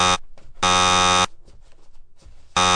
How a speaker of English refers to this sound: Your buzzer button's broken.